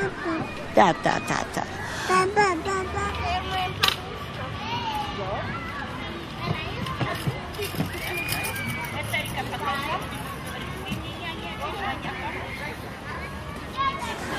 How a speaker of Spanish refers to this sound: Cuando veo a estos niños jugando a la guerra, haría todo lo posible para impedirles que lo hicieran.